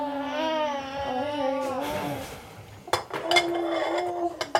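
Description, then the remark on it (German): An infant fusses and babbles at first, then dishes and cutlery clatter in a quick run of sharp clinks and knocks during washing up in a small fitted kitchen, while the baby's voice carries on underneath. “Überall stapelt sich Geschirr, auf dem Herd blubbert eine Fertigpastasoße vor sich hin.”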